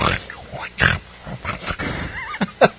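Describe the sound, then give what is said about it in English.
A person makes a few rough, snorting pig-like grunts in short irregular bursts, mimicking a pig with their voice to wake someone up in the morning. “He gets the pig in the morning.”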